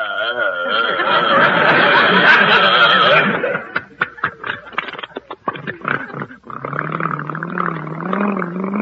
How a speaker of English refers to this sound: We continue down Adams Street, named after a hat, as our faithful bus starts off with a roar.